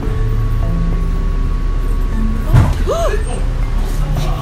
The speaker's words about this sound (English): Everyone all right? Yep. It's just a little bit of a bus crash into the vehicle in front of us. There's no real damage to the bus or the car it crashed into, but the driver needs to wait for an inspector to arrive.